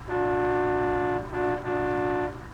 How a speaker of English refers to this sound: Jefferson Benny, our young senator, has just arrived in Washington and is captivated by the beauty and splendor of the nation's capital. As we pick him up now, he's on a sightseeing bus, accompanied by his secretary, Miss Jean Livingston.